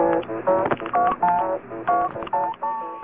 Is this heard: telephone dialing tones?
yes